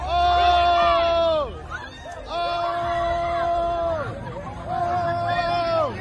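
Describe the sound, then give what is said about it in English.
A crowd yells and cheers during a beating, over a steady babble of voices, with three long, high-pitched shouts that rise and fall, each lasting over a second, at a fairly loud level throughout. “I want you to hear in the back the cheering going on as they're getting their ass whooped.”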